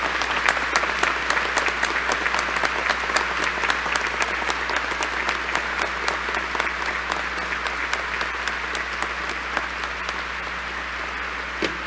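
A large audience, people of Tabasco, claps steadily for about twelve seconds, a dense, sustained wash of applause with a faint low hum underneath and no talking over it.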